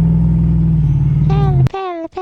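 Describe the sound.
A Prius car with a K&N exhaust drones low and steady, accelerating from a standstill, before voices cut in over it toward the end.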